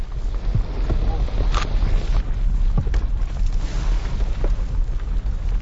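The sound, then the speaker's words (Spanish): A very active volcano, whose current eruption began several decades ago, roars with a loud, steady, deep rumble of ash discharge from its eruption column, broken by a few sharp cracks and pops of falling rocks scattered through the continuous noise. “El ruido proviene de la descarga de ceniza y también de la caída de rocas.”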